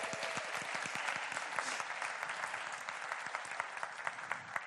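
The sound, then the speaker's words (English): A sustained burst of audience applause, many hands clapping at once in a dense, steady patter that stays loud and even for several seconds with no one speaking over it. “Give a round of applause, everybody.”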